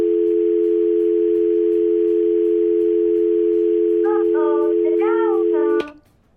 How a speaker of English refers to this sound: Dial tone.